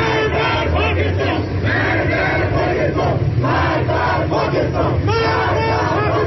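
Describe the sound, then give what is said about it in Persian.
A loud crowd of people in Tehran protests in front of the Pakistani embassy against Pakistan's interference in Afghanistan's internal affairs, many voices shouting slogans together in a steady rhythmic cadence, the chant rising and falling in repeated phrases throughout. “همچنین در تجمع شماری از مردم تهران در برابر سفارت اسلام آباد در پایتخت ایران به مداخله پاکستان در امور داخلی افغانستان اعتراض صورت گرفت.”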